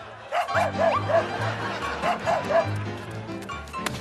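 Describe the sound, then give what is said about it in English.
A small dog, Presto, being urged to do a double flip trick, yips and barks in two quick bursts of three high, sharp yaps, clear, over a low steady background hum. “Ditsy dog! He's hopeless.”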